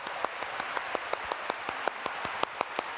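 An audience at a preacher's service claps their hands for exercise in a fast, steady rhythm, sharp claps landing about six times a second over a dense wash of scattered applause, with no voices heard.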